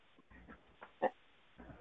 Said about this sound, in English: The dog sounds like the dog that was in Don's closet.